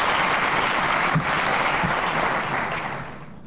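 A large crowd applauds steadily as the Reverend Jesse Jackson is presented, a dense wash of clapping that stays loud throughout and begins to taper slightly toward the end, with no voices over it.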